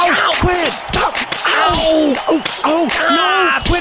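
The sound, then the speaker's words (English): Repeated sharp, loud face slaps land in a quick, irregular flurry, mixed with pained yelps and grunting vocal cries, in round one of a slap fight between Mike the Mauler and Crusher Thompson for the USF title belt. “Mike the Mauler has really come out slapping.”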